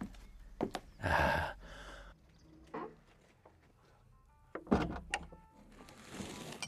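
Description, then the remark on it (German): A door is opened as people go inside, with a brief mechanical rush and clunk, followed by quieter shuffling, a couple of sharp knocks and a soft rustling movement. “So, dann einmal Tür.”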